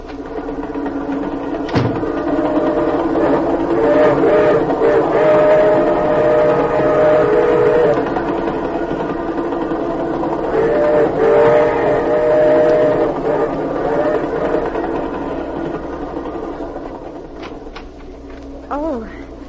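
A passenger train rumbles steadily along with a continuous clattering roar, and two long, wavering whistle blasts sound over it, each lasting a few seconds.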